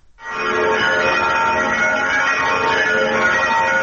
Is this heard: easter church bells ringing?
yes